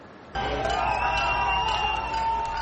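A crowd of diplomats, well-wishers and demonstrators cheers, shouts and chants slogans loudly as the Cuban flag is raised outside the newly opened Cuban embassy. A dense wash of many voices bursts in after a brief quiet moment and holds steady, with some voices rising above the roar.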